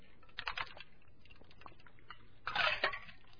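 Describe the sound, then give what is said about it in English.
A few short, wet slurping bursts of someone taking sips of cold water with lemon from a glass, with a brief pause between two clusters of sips and no talking. “So thankful for cold water. With lemon in it, in fact.”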